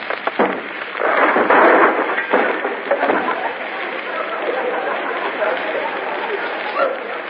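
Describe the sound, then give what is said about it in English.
An upstairs door, which turns out to be a bathroom door, being broken in: a few sharp, heavy blows followed by a loud, sustained crash in the first two seconds, then a rough, steady clatter that trails on. “Open that door, I say. Oh, you won't do it, eh? Well, we'll break it in.”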